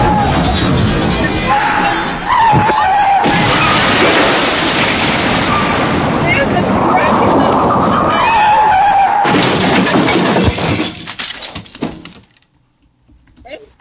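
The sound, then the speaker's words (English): A truck smashes into a house: about twelve seconds of loud crashing, grinding and shattering debris with a screeching, skidding tone, then a sudden drop to near silence. “A truck just ran in my house.”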